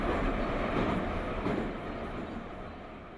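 A Moscow Metro train rolls along the rails with a loud, steady rumble and a broad mechanical roar, easing slightly toward the end. No one speaks.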